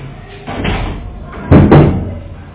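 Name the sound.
door opening and closing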